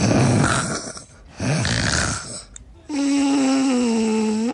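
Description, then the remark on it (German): Someone deliberately snores through the nose: two rough, breathy snorts, then a longer, louder buzzing snore with a droning, voiced tone. No talking. “Also man atmet so durch die Nase und dann kommt da so ein Schnarcher raus.”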